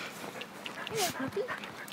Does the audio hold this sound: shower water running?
no